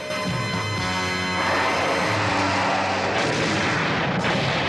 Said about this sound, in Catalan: En Goku treu el cap pels sostres miculat i tomba una torre del castell d'un cop de puny.